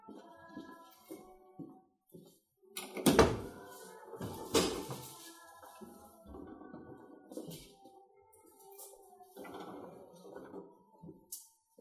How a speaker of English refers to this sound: While you're going to Matthew 5, let me close these doors.